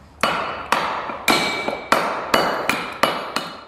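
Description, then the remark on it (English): A stonemason's hammer taps stone as he works on a boat for a sculpture show, in a steady rhythm of about eight sharp, bright strikes, each ringing briefly with a clinking metallic edge before the next blow. No voices, just the repeated tapping. “there tapping away. He's a stonemason, and you can see his boat as part of a show at the Yarra Sculpture Gallery if you're in Melbourne.”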